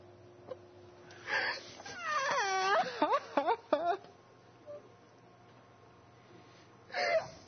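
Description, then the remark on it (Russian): A male voice's plaintive wailing cry rises and falls in a run of drawn-out moans and shorter sobbing whimpers, framed by a couple of breathy bursts and then quiet. “Ой, несчастный. А он плачет.”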